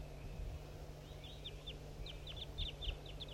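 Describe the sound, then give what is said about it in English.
A quick series of high, short bird chirps, a mix of played recordings and softer calls of wild birds, repeated in uneven bursts over a steady low hum, with no one speaking. “Recordings 4-3 and wild birds as well.”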